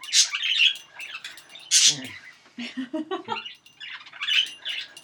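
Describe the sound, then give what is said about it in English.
Shrill squawks and quick chirps from pet birds burst out repeatedly and loudly, with harsh high calls at the start and end and choppy chattering in between. “Well, we invited the birds because they are on a lot of the music we do.”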